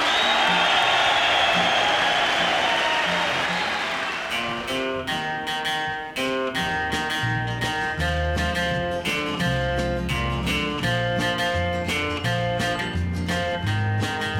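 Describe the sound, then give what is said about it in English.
A crowd gives a big cheer for a late guitarist, loud applause for about four seconds, a dense roar of noise, before a band kicks in with strummed guitar and steady drums that carry on to the end. “How about one big cheer for …?”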